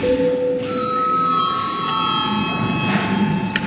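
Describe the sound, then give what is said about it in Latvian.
A parliamentary session bell rings steadily with a bright, sustained electric tone for several seconds, calling deputies to registration, over a low murmur, with no clear talk. “Lūdzu zvanu, lūdzu deputātu reģistrācijas režīmu.”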